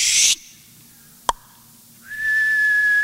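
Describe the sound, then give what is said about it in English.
A short burst of hiss and a sharp click, then a steady, high-pitched whistle that holds one pitch for about a second, like someone whistling to imitate an incoming missile. “Satan's got a missile coming in.”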